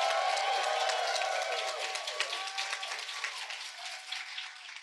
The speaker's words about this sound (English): Please give a huge, huge applause.